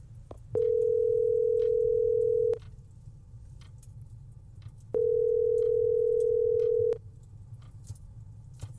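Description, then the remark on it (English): Two long, steady electronic ringback tones, each about two seconds with a pause between, sound clearly over a low background hum on an outgoing phone call that goes unanswered and reaches voicemail. “Oh my God, just hang up if someone answers.”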